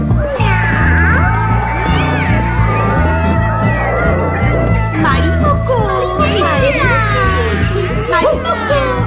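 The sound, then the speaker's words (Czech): Several cats meow loudly and repeatedly, their wavering, drawn-out cries overlapping throughout, layered over a steady, rhythmic low background sound. “Věrny proradné falešné kočky. Počkejte, já vás prožen.”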